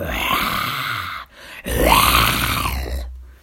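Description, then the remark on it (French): A lion's long roar at night comes in two loud, rough, drawn-out bursts; the second swells upward in pitch and then sinks away. No one talks. “Dans la nuit, Monsieur Rataton est réveillé par un long rugissement.”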